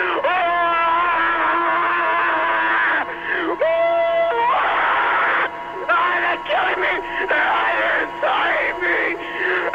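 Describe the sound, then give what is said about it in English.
Loud human screaming and wailing that runs almost nonstop, with strained voices swooping up and down in pitch and only brief breaks between the cries. “This is what I think of your stupid, wanky scream idea.”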